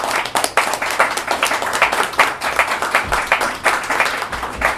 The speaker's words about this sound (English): Ladies and gentlemen, a round of applause.